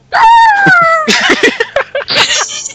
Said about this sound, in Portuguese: Porra, esse cachorro tá cada vez mais bizarro. Cara, a gente precisa Melhor deixar efeito esse. sonoro. A gente precisa deixar esse daí aviso de spoiler. Vai ser sempre esse.